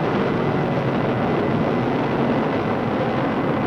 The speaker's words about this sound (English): T-minus 10, 9, 8, ignition sequence started. 5, 4, 3, 2, 1, 0. All engines running. Liftoff, we have a liftoff. Tower cleared.